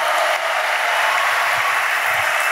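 A crowd claps steadily for an audience member, a dense, even wash of applause that stays loud and unbroken throughout, with no voices standing out above it.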